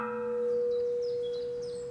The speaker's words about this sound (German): Hier zum Beispiel an einer Glocke aus Spanien. 80 cm Durchmesser, 300 kg schwer. Das ist eine Glocke von 1824. Und diese Glocke haben wir bekommen für Untersuchungen, weil diese Glocke einen Riss hat.